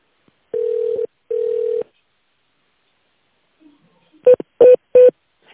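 Telephone keypad tones dial an extension: after two longer steady tones and a pause, three short, sharp beeps sound in quick, even succession, fairly loud and with no talking over them.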